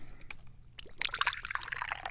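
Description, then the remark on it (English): Tea is poured into a cup, a bright splashing trickle that starts after a brief quiet moment and runs steadily for over a second, with small gurgles and drips. “That didn't sound like that made a whole hell of a lot of sense to me, but I don't care because I'm pouring some tea.”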